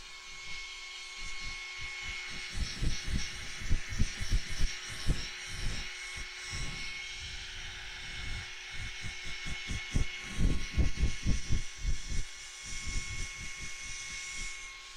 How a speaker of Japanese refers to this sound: はい、じゃあ後ろ向いて乾かすからね。これが普通のドライヤーっぽく使えばいいんだよね。